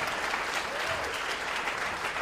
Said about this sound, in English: That got less applause than a reference of T.J. Miller.